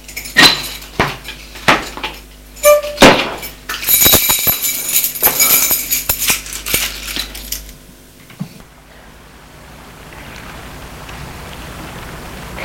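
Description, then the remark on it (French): Keys jangle with sharp metallic clicks and rattles as a key turns in a door lock to lock the door, then the sound fades into a quiet hiss. “Les clés, qu'est-ce que j'en ai fait? Je ferme la porte à clé.”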